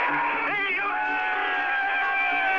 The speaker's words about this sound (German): Nicht immer war der Jubel so spontan, als sich um Mitternacht die ungarischen Schlagbäume.